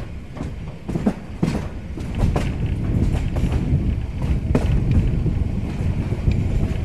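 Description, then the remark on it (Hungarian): A children's railway train rumbles steadily along the tracks on a route through stops such as János-hegy, Hárs-hegy, Virágos-völgy and Csillebérc, with a dense low-frequency roar and scattered sharp clacks and rattles, heard from on board with some wind buffeting and no one speaking. “A gyerekműsor mikrofonjával mi is felszálltunk a vonatra.”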